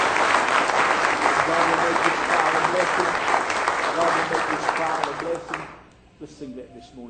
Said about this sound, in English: Praise the Lord. Praise the Lord. Give the Lord a good hand clap of praise this morning.